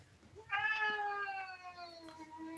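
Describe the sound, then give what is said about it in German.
A cat, crying for food, lets out one long, drawn-out meow that starts abruptly and holds steady for about two seconds, loud, with a faint low hum underneath. “Oh Gott, meine Katze.”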